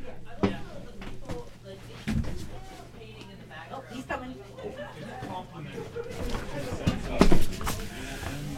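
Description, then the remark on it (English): A door is closed with a couple of sharp knocks and thuds amid faint shuffling noise, while indistinct talking murmurs in the background. “And I just have to close the door there.”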